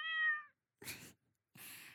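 A cat, Xiao Buding, the only cat kept at a cat café, gives one clear, drawn-out meow, followed by two short, breathy noise bursts separated by brief silences.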